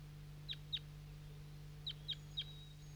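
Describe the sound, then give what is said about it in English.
A captive bird gives five sharp, high chip calls, a pair followed after a pause by a quick run of three, clear over a steady low hum, calling loudly to wild birds that had just arrived, on a hilltop where a net is set up, at 7:11 a.m. “and I got the net set up at the hilltop, and that's 5-3 calling to some wild birds that just arrived on the scene about 30 seconds ago.”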